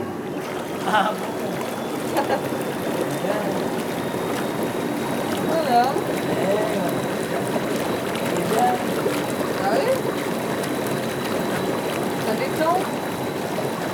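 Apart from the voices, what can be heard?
water bubbling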